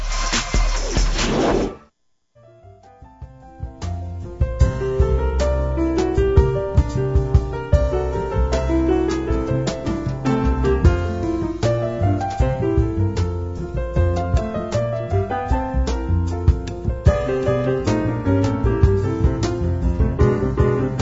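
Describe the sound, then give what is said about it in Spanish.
A brief swooshing burst gives way to a short instrumental musical bridge on the radio program Momento Económico, dense and steady at a constant level from start to finish, with no voices. “Bueno, voy a hacer un breve puente musical y regresaremos.”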